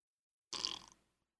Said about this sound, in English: I'm going to keep that sip sound in. That was very timely.